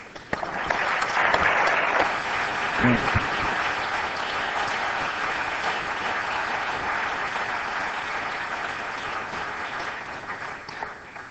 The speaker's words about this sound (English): We should applaud.